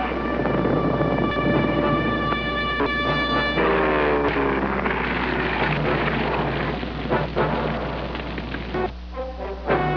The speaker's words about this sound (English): In April 1940, this invasion came, the scream of planes and the thunder of heavy bombs, as a nation whose only offense was that it lay in Hitler's path was ground under the conqueror's boot.